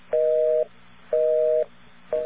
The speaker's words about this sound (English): Okay, here we go. Let's get a dial tone. I've got a busy signal right away.